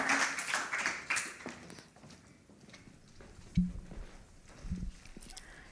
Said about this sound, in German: einmal großen Applaus